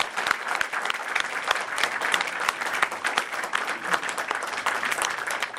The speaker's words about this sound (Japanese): 男性日本丸を愛する男性合唱団の皆様、どうもありがとうございました。皆様もう一度大きな拍手でお送りください。